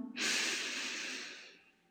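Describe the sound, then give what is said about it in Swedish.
A single long, deep inhale through the nose, clear, a breathy rush that swells quickly and slowly fades over about a second and a half, with no talking; one of three mindful deep breaths taken together, in through the nose and out through the mouth. “Andas in genom näsan.”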